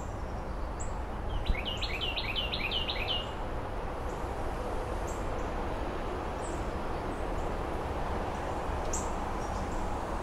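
The resident blue jays call in a backyard on a September mid-afternoon, a quick burst of repeated chirpy notes early on, then scattered single calls over a steady outdoor rushing noise. No one speaks.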